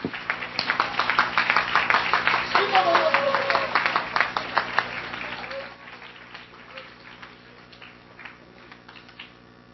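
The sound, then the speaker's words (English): A church audience claps hands in praise in a dense, irregular patter with voices mixed in. The clapping is loud for about five seconds, then thins out and fades to scattered claps. “Now clap your hands, receive that of the Lord, and lift your voice in praise.”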